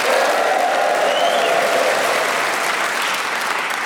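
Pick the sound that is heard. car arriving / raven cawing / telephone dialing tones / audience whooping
audience whooping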